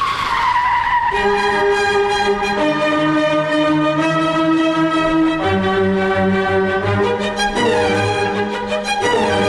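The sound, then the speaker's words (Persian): A loud, sustained screech of car tires skidding under hard braking, its shrill pitch shifting in steps over several seconds with no voices present. “من با اجازه میخوام همینجا ترمز کنم.”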